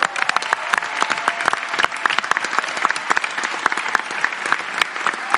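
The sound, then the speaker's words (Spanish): A crowd claps steadily for friends in Chile for several seconds, a dense, even wash of many hands with sharp individual claps popping out, holding a fairly constant loudness throughout without any talking. “Un gran aplauso.”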